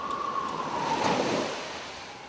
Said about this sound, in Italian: Poco dopo si era alzato un forte vento di scirocco, quel vento insistente che viene dal mare, gonfiando le onde come vele ruggenti.